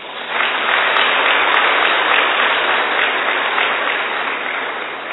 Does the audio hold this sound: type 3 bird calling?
no